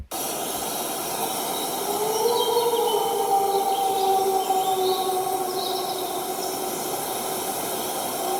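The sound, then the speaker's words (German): A wolf howls at middle distance, long smooth wavering tones held for several seconds, with a second voice overlapping, over a steady hiss and faint bird chirps. “Wolf aus mittlerer Distanz.”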